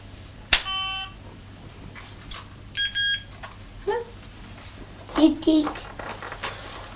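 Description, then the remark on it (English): A couple of short electronic beeps and tones as the buttons of a toy phone are pressed during play, as if Postman Pat is calling. The beeps are fairly clear, and a young child's voice is briefly heard afterward. “He's pressing the buttons. He was just pressing the buttons, was he?”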